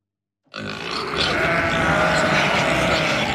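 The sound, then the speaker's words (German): After a brief silence, a loud, continuous din of farm animals starts: sheep bleating mixed with pigs grunting, many of some 180 cloven-hoofed animals calling at once, back in their home stable on a farm in Hendorf, Flachgau. “Endlich grunzt und blökt es wieder auf Gut Eiderbichl in Hendorf.”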